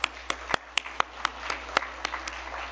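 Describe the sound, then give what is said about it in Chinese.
Scattered hand claps from a small audience welcoming a guest pastor who has come to preach, a dozen or so sharp irregular claps over a few seconds, fairly quiet, with no voices. “我们今天很荣幸有陈明辉牧师到我们当中来证道，我们鼓掌欢迎他。”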